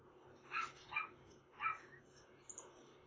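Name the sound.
dog yipping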